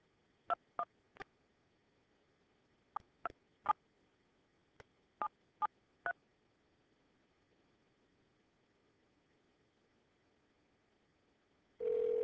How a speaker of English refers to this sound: Central, all right, here's one. Central Standard, and I'm dialing the next number. No paper, no printing, staying on the phone.